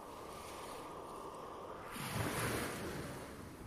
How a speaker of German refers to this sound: Du läufst langsam auf das Meer zu, bis du am Ufer mit den sanften Wellen ankommst.